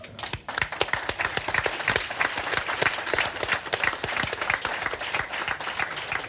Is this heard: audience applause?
yes